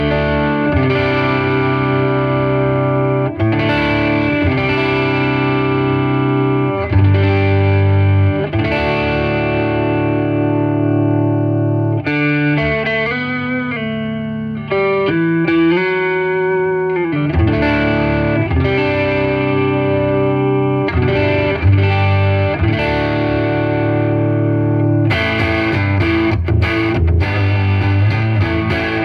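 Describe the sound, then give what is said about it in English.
An electric guitar on its neck pickup plays a steady run of ringing chords with a warm, effected tone, loud, with no voices and only brief pauses between phrases. “Onto the neck pickup.”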